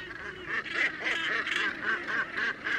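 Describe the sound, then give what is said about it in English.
A dense clamor of harsh, honking gannet calls overlapping continuously from a large flock feeding as gannets plunge from aloft into shoals of fish, fairly loud and steady with no speech. “As this happens, gannets begin plunging into the shoals from aloft.”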